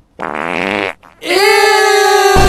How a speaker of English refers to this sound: Ew! Ew! Nah, what, bro? Yo, who farted? Nah, facts, bro. Like, who boofed it?